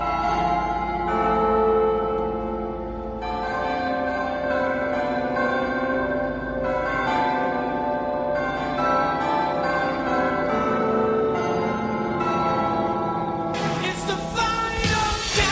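The bells of the Zamora Town Hall ring out a catchy pop melody, with struck notes overlapping in a rich, resonant wash. The tune plays continuously and loudly, with no voices.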